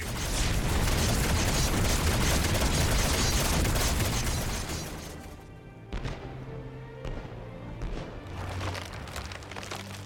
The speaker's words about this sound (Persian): چرا همچین فکر میکنی؟ به خاطر اون انفجارا؟